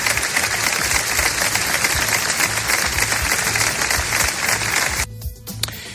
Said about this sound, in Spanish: Esta tarde en la plaza del Ayuntamiento se ha guardado un minuto de silencio roto por los aplausos de los vecinos.